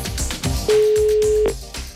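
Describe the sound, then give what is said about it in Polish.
A telephone line tone sounds once as a phone call is placed, a steady, loud electronic beep lasting nearly a second, over rhythmic background music with no one speaking. “telefon właśnie w tej sprawie czas wykonać.”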